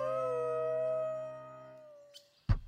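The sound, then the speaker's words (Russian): A wolf lets out one long, steady howl that slowly sinks in pitch and fades over about two seconds. A brief noisy rustle and a sharp thump follow. “Только раки пучеглазые по земле во мраке лазают, да во враге за горою волки бешеные воют.”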